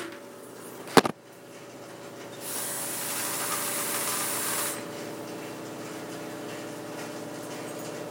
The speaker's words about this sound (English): Excuse the washing machine.